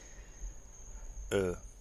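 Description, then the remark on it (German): A faint, steady high-pitched trill of crickets chirping in the dark runs unbroken in the background, with a short burst of a voice cutting in near the end. “Und wahrscheinlich hört ihr auch die Grillen im Hintergrund grillen.”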